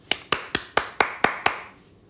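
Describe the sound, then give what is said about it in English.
Seven crisp hand claps in a steady, even rhythm, each one sharp and bright, fading out with a short ringing tail after the last clap. No talking. “And then I should insert a clapping thing.”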